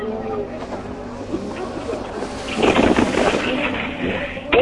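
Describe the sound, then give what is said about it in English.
Matthew Wilson's rally car engine cranks over on its fourth attempt to start, stalled at the time control, with a rapid, rough chattering that swells loudly midway, then sputters without catching, over a steady rumbling background with wind noise. “Matthew Wilson, that's 3 times he's tried to start it. This is the 4th time. It ain't starting.”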